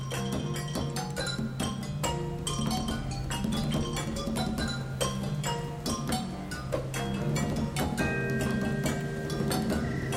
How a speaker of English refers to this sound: All right, I'm going to remove the thunderstorm